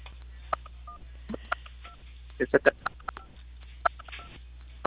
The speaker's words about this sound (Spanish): Estimada, le escucho un poco entrecortado, ahí como si estuvieran presionando teclas del teléfono.